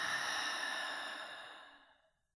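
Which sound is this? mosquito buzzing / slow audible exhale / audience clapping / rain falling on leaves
slow audible exhale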